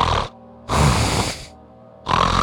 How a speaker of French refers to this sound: Elle est à 8 mètres devant vous, au milieu de la pièce. Elle est entourée de tout un tas et cercle de détritus, d'emballages de quick et de cadavres, de bouteilles de bière, de crocs et de bouteilles de sky. Elle a un ronflement...